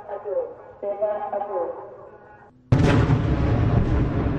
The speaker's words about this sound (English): As smoke filled the sky over the Gaza skyline on Wednesday, a red alert warning was heard in southern Israel, followed by two loud bangs from explosions.